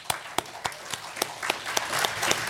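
An audience breaks into applause for the crew who make the broadcast possible, a few sharp claps standing out in a steady rhythm over a dense, building wash of clapping hands. No one speaks.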